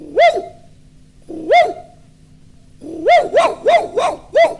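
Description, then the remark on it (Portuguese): A small dog yaps sharply, two spaced high-pitched barks followed by a quick burst of about five more, loud with no other sounds around. “E o cachorrinho chegou, latiu, latiu.”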